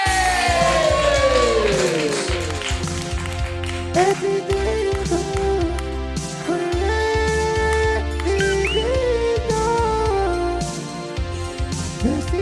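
A comedy show audience claps and cheers loudly and steadily as the last comedian of the night is introduced, with whoops and yells rising over the dense applause, which keeps going for the whole stretch.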